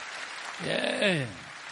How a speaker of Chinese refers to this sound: 给他掌声，给他掌声。